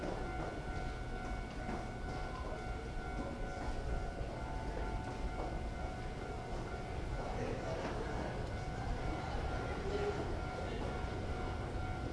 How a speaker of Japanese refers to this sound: 皆様、まもなく三宮方面行きの電車が到着いたします。危険ですから白線の内側にお下がりください。